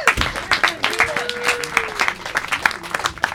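A crowd claps steadily for a few seconds for a performing artist, a dense crackle of many hands, with a faint whistle sliding through the middle and a low murmur of voices underneath.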